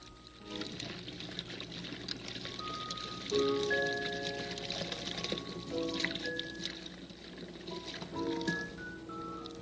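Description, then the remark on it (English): Paint brushes used with water paints are swished and rinsed in water to clean them, giving a steady sloshing, trickling sound throughout, with soft sustained musical notes playing underneath. “Part of painting is cleaning the brushes, and that we will do now.”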